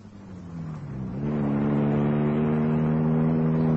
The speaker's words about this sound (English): I got in my car and drove at a high speed. I didn't know where I was going. I just drove.